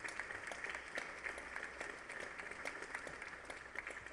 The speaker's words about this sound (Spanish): Un aplauso para todos los artesanos y artesanas.